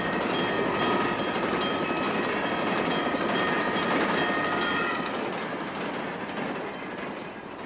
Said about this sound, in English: Just as the train approaches, she backs up. She watches the train pass.